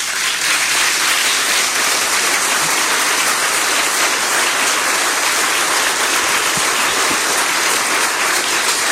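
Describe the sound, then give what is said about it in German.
Steady, loud audience applause fills the whole stretch, a dense wash of many hands clapping with no pauses and no voices over it. “Das verdient keinen Applaus, ist ein fürchterliches Geschäft.”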